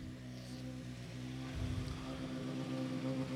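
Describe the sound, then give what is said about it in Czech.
A rally car's engine drones steadily with a deep, harmonic growl, swelling louder about halfway through as it arrives at the finish of a rally stage, with no voices over it. “No ale máme tady další posádku, Honza Černý přijíždí.”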